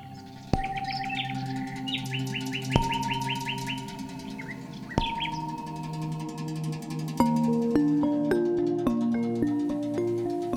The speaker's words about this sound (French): Dans la forêt du paresseux, les oiseaux piaillent.